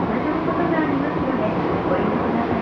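Steady, dense rumble inside a moving subway car, a continuous low roar with rattling and faint squeals, loud throughout with no pauses.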